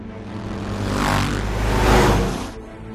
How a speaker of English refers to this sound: Owen arrives behind them on his motorcycle. Owen! Yeah! He accelerates to the driver's side window.